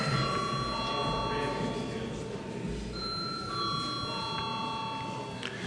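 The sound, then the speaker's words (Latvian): An electric voting bell rings steadily for several seconds in the Latvian parliament before a vote, its bright sustained tone sounding over a low background murmur of people in the room. “Lūdzu to atbalstīt. Paldies, lūdzu zvanu.”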